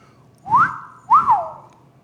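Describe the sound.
A person gives a two-note wolf whistle at a woman walking to her car outside a store: a rising whistle followed by a rising-then-falling one, sharp and clear, with no talking.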